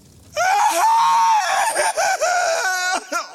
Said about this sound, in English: That scream froze everything. She froze, I froze, and Donut froze.